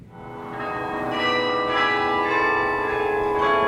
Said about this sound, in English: Ringing out around the Irish town of Cove in County Cork in Ireland are the bells of St. Colman's Cathedral, playing Hail Glorious St. Patrick.